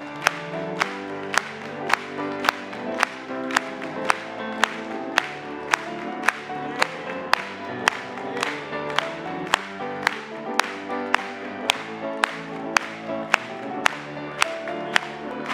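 An audience claps together in a steady, even beat, roughly two claps per second, over sustained music that plays throughout the whole stretch.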